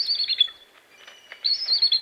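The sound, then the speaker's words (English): A bald eagle, the official bird of the United States, about 3 feet tall with a wingspan of more than 6 feet, gives a high, squeaky chittering call like a squeaky door in two bursts separated by a quieter pause, thin and piping, clear with no talking. “Yes, that squeaky door sound comes from the official bird of the United States of America.”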